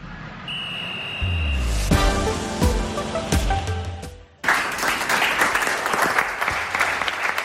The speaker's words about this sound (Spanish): Con los aplausos de sus jugadores, de su cuerpo técnico, personal del club y hasta de la prensa, Rubén Alves se despedía ayer de su etapa al frente del Albacete Balompié.